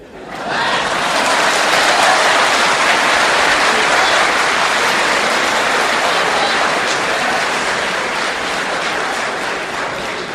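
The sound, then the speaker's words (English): A crowd breaks into loud, sustained applause that starts abruptly and holds steady for about ten seconds, a dense wash of many hands clapping with no voices standing out. “Because of your clapping, he's going to get angry.”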